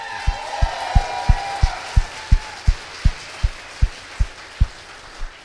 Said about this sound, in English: I go to sporting events. They sort of give a polite clap for the coaches. They really clap for the superstars. Here's one of our superstars, folks.